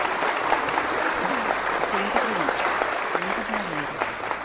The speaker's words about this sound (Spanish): ¡Muy bien! Ahí está, aplauso.